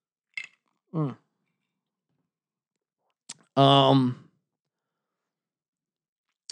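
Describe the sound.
A few brief slurping sips and small mouth clicks with quiet gaps between, followed by a loud, drawn-out voiced exhale of satisfaction, then silence.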